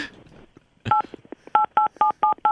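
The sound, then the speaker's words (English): A little tune, the Outback restaurant jingle, tapped out on phone keypad tones: half a dozen or so dial beeps in a bouncy rhythm, most of them sounding like nearly the same note, after a brief rustle. “Hey, can you play Outback on your phone right now?”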